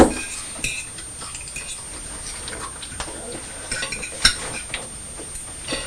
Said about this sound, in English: You're not too tired to still crunch your crisps, though, are you? Because I can hear you. Nice crisps.